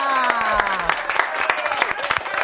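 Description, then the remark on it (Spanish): A crowd bursts into steady, dense applause for the team, sharp overlapping claps running throughout, with raised voices and some cheering mixed in. “Bueno, un aplauso qué de todo buena.”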